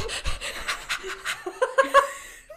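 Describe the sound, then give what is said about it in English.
A woman acting out charades breathes heavily in a quick rhythmic series of breathy pants, ending with a few short, high-pitched squeaky whines. No one speaks. “People just heard heavy breathing.”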